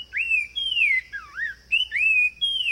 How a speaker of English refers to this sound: Now, here again is the sumacrest wren. Genetic studies eventually proved that these birds are distinct species, each with their own way to serenade their forest homes.